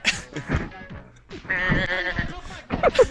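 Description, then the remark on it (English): A sheep bleats several times, wavering, nasal cries coming in short bursts with a brief pause between them. “There was a sheep.”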